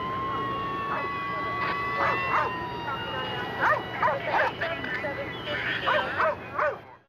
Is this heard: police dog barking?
yes